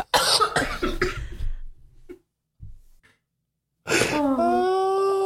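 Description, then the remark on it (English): A loud coughing fit: several harsh coughs in quick succession, a short pause with faint breaths, then a strained, wheezing gasp as the fit resumes. “I'm never going to stop coughing.”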